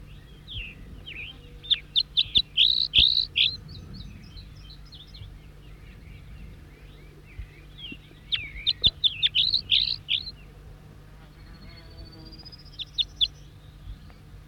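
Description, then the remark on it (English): A wild songbird, responding with the same song phrases, sings two bursts of quick, high, whistled song phrases, each a rapid run of bright chirps, separated by a pause, with a softer trill near the end over low steady hum. “Three and back responding with the same song phrases. Wild bird.”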